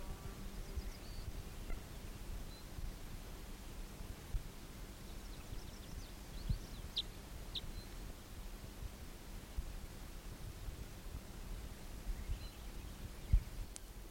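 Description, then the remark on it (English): A recording of bird 319: a few faint, brief high-pitched bird chirps, scattered irregularly over a steady low hiss and rumble, with no talking. “Recording bird 319 again.”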